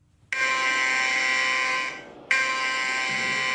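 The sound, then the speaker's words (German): The alarm tone of the KatWarn warning and information system on a smartphone, warning of severe weather and other events: a loud, harsh, buzzing electronic tone blares steadily, dips briefly, then cuts back in abruptly at full strength. No voices. “Es ist der Alarmton des Warn- und Informationssystems KatWarn.”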